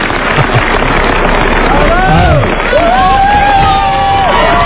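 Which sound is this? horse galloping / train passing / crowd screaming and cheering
crowd screaming and cheering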